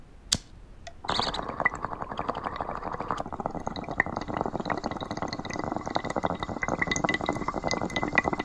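A sharp click, then a steady, dense gurgle of water bubbling through a bong as an indie musician takes a hit in an apartment, churning continuously and fairly loud for several seconds with no voices.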